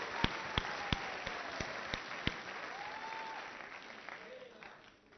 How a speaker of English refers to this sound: I think we just give a clap offering to our mothers.